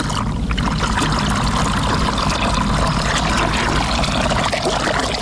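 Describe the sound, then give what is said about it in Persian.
Water pours steadily from a clay water jug (kuza), as used in Afghanistan, in a continuous, fairly loud gush with a splashy trickling texture, lasting several seconds with no voices. “شنونده های عزیز سلام، در بین برنامه رو می گوشاییم و با کوزه آب و روشنایی به سوی شما می آییم.”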